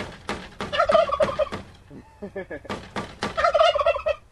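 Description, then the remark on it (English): Two loud bursts of rapid, warbling gobbles from several heirloom turkeys calling together in their pen outside greenhouses, separated by a brief pause with softer clucking and a few sharp knocks as someone taps on the pen to get them to sound off. “Alan taps on the turkey's pen to get them to sound off.”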